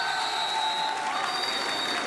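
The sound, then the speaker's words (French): An audience applauds a man loudly, a dense wash of many hands clapping steadily at a constant level for a couple of seconds, with no voices rising above it. “On l'applaudit très fort.”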